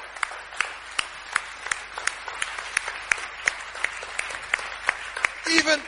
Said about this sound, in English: Halleluja. Halleluja. Clap for Jesus. Go ahead. Klatsche für Jesus.